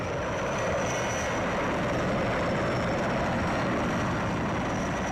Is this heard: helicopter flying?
yes